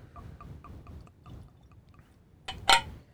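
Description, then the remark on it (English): 100-proof bottled-in-bond Kentucky straight bourbon whiskey, aged four years, glugs out of a bottle into a glass in a quick, steady series of gurgling pulses, then a bright, sharp clink of glass rings out near the end. No one speaks. “Make a lot of noise over there pouring that whiskey.”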